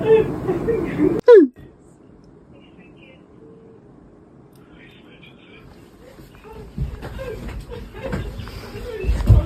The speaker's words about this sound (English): Oh, she's crying.